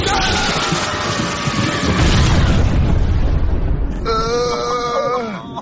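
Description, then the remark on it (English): A lightning strike, just after a kite is released into the air, hits with a loud, crackling boom that roars and rumbles for about four seconds, then gives way to a wavering, high-pitched bleating cry. “It's just my lightning, you idiot.”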